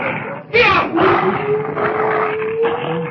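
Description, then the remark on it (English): Wolves snarl and growl in a noisy scuffle with sled dogs, the wolves going after the dogs, with harsh bursts of yelping and a drawn-out whining cry running underneath, continuous for several seconds. “Look out, that wolf. He's after the dogs.”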